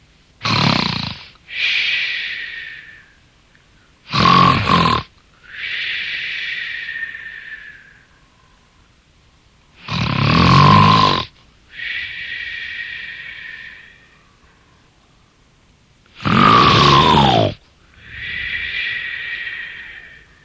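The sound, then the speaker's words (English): Loud, exaggerated snoring: four slow cycles, each a harsh rasping snort on the inhale followed by a whistling, wheezy exhale, with brief quiet gaps between; a giant snoring after falling asleep to a harp's lullaby. “The magic harp began playing such a sweet lullaby that soon the giant fell asleep and began snoring loudly.”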